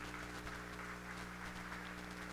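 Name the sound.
audience hand clapping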